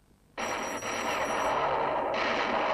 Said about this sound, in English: In Mick's hotel room, Mick's in the bathroom brushing his teeth. His telly's on full blast, so he doesn't hear the phone ring.